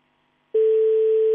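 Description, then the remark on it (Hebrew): A phone line's ringback tone of an outgoing call placed to a contest participant suddenly starts after a moment of silence, a single steady, loud mid-pitched electronic hum that continues unbroken to the end. “האם זה מצלצל לי מוכר?”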